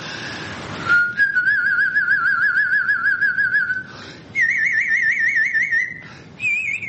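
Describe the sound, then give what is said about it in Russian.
A whistler demonstrates a trill: a sustained, rapidly wavering whistled trill in three long phrases, each stepping slightly higher in pitch, fairly loud with brief breaths between. “Например, трель, я вам сейчас продемонстрирую.”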